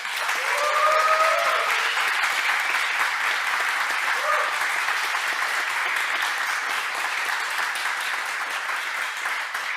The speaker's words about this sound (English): And I really want to hear a loud applause for the network team.